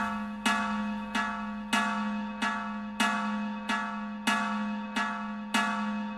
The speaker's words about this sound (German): Hört sich so ein bisschen an, als ob einer auf den Eimer haut. Ja, genau, richtig. Die Glocke besteht ja auch aus Eisenblech. Ja? Das ist also insofern blecherner Klang.